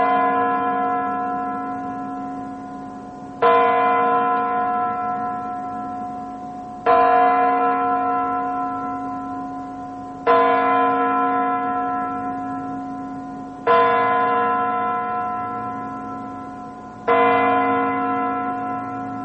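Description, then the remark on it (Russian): A clock bell strikes six slow, evenly spaced times, each deep, rich chime ringing out and fading before the next stroke lands. No voices are heard. “Двенадцать ударов часов для мировой культуры – это, конечно же, звук сакральный.”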